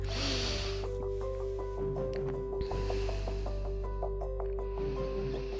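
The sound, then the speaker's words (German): Slow, airy breaths drawn in and let out deeply several times at the breather's own pace during a guided relaxation, soft whooshes rising and falling over a steady, sustained musical drone with gentle tonal notes. “Du jetzt deine Augen schließen und einfach in deinem Tempo ein paar Mal tief ein- und ausschnaufen.”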